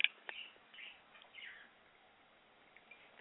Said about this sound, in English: Oh, Birdie Bird, you're funny. You stopped chirping when I took a sip of water.